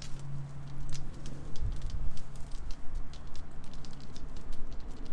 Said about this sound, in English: Oh dear. I knew something like this would happen as soon as we come out to go by the river. It rains.